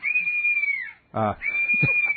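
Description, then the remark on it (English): A bird of prey gives a shrill, sustained screech that holds a steady high pitch for nearly a second, breaks briefly, then returns, with a harsh scream-like burst in the gap. Loud and piercing throughout. “I believe that's a bird of prey, although it sounds like an entire kindergarten being murdered, which I guess you can get away with if you happen to be in a place where birds of prey hang out.”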